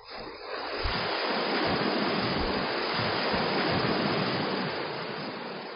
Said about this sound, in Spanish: Sin embargo, si se fija en las olas que acercan a la playa, observará que van llegando en grupos con alturas variables.